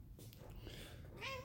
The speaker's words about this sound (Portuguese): Tem um gato aqui, meu.